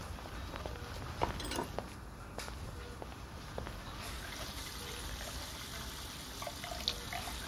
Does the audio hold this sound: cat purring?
no